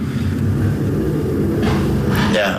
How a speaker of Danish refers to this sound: Og vi sidder lige og kigger ud i rundkørselen på nogle... Der kommer en motorcykel kørende forbi der.